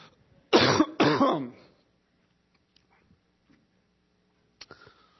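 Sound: coughing and throat clearing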